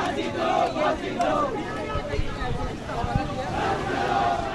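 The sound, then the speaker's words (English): A small crowd outside a courthouse chants "Hang them" in unison, loud overlapping voices rising and falling in rhythmic shouted phrases, with scattered claps or thumps beneath the steady babble. “As a tiny crowd chanted, "Hang them,"”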